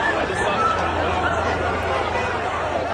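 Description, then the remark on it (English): A large crowd in a chaotic commotion at an outdoor event at Utah Valley University, Utah, many overlapping voices forming a dense, steady roar of shouting and chatter with no single speaker standing out. “The sound from Titan Williams at Titan Williams 12 at the outdoors event at Utah Valley University with chaos in the crowd”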